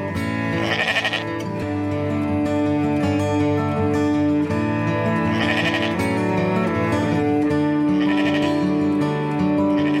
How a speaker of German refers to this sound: Dann reiße ich das Fenster auf und rufe ihren Namen. Manchmal blökt sie und manchmal rennt sie eine kleine Freudenrunde.